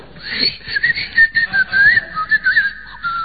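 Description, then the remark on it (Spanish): An oven cleaner aerosol can sprays a steady burst into a hot oven, its hiss carrying a high, wavering whistle-like tone that pulses slightly for about three seconds, with no talking. “No, señores, es el aerosol del limpiahorno.”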